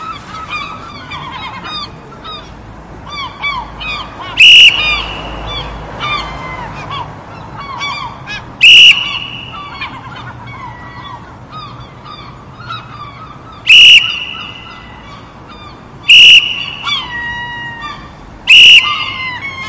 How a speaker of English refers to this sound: heard Paris blowing her whistle, loudly, repeatedly, in between the squawking of the low-flying seagulls